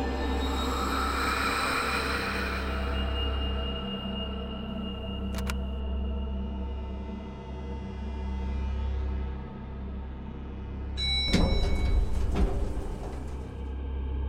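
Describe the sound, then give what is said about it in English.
Elevator doors slide shut over a steady low mechanical hum, with a brief clank midway and a louder rattling thud as they close near the end. No one speaks. “When she finally ran into the elevator and the doors closed behind her”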